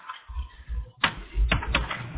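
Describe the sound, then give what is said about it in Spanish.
Keyboard typing clatter: a few sharp, irregular key clicks, fairly loud, over a low background rumble with no talking. “No, el teclado es terrible.”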